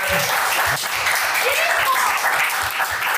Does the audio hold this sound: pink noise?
no